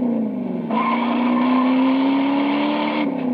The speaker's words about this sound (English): Motor Trend magazine has just named the 1969 Plymouth Roadrunner as Car of the Year. Listen to just a few of the reasons. Power from a standard 383 cubic inch, 335 horsepower wedge V8 engine.